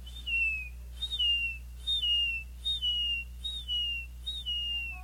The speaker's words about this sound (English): Along the saltwater areas of our state, you hear the seagull.